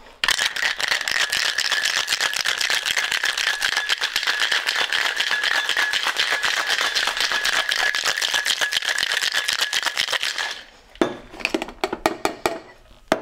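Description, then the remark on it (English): Ordinary freezer ice cubes rattle hard and fast inside a cocktail shaker as a drink is shaken for about ten seconds of steady, loud shaking, then slow into a few scattered clinks and knocks as it stops. “And choose your shaking glass of whatever.”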